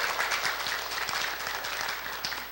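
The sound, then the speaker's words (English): A crowd claps steadily, a dense, continuous patter of many hands that stays fairly loud throughout the short stretch, fading only slightly at the end, with no speech over it. “Maybe we should clap or do something.”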